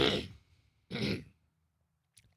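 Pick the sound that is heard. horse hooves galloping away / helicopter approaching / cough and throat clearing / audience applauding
cough and throat clearing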